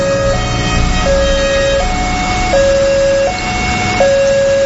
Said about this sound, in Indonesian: Saat bunyi peringatan menyala dan palang pintu pun mulai turun